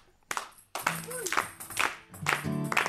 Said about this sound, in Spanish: Pero vamos, hay que hacer palmas también. Vamos a hacer palmas. ¿Quién sabe hacer palmas?